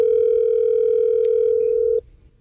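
A phone line rings once through the receiver: a steady, clear electronic tone holds for about two seconds, then cuts off, leaving faint line hiss. No one speaks.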